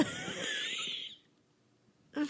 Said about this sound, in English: How good does my cough sound? It sounds like not even. It sounds like a Foley cough.